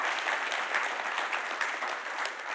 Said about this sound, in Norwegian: Skal vi også gi deg en applaus for at du stiller opp og deler på scenen?